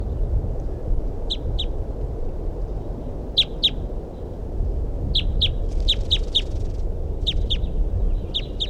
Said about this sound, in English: That's a crossbill there that I saw or heard. It's a female.